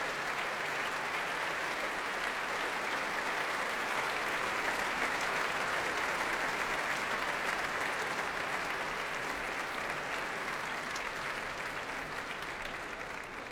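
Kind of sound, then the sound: crowd, concert hall audience applause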